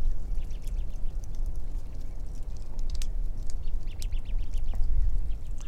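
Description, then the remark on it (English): Crossbills prying open pine cones and climbing among the cones in pines: scattered small snaps and crackling ticks over a steady outdoor hiss, with a few brief faint bird chirps mixed in. “In this next recording, see if you can hear cones being pried open and the birds climbing around parrot-like among the cones.”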